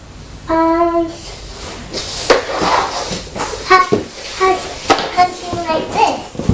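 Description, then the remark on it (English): A young child's dressing-up cupboard door is opened with a few short knocks and clatters, while the child's high voice chatters and squeals throughout. “Oh, that's your dressing up door, isn't it?”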